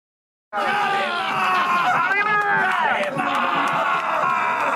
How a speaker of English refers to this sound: That is a dude shouting Kalima from Indiana Jones while tearing apart a bloody heart all over his face while people cheer on top of a burning American flag.